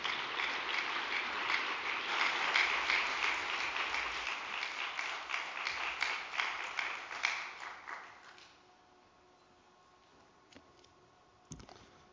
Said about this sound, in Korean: 큰 박수로 맞이해 주시기 바랍니다.